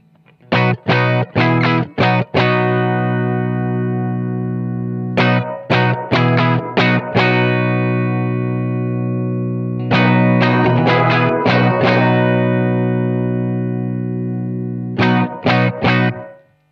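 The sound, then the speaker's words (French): Distorted electric guitar chords played through an amp in four bursts of quick strums, each left ringing, while the fader of a small-room reverb effect is raised from very low, so the fairly restrained room reverb tail gradually becomes more noticeable. No talking. “mais vous voyez que le fader il est très très bas, donc au fur et à mesure où je vais monter le niveau, vous allez entendre la réverb pièce, de type pièce, hein, small room, donc vraiment relativement restreinte, qui va monter.”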